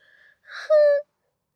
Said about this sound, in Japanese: ふぅ。ふぅ。大声あくび。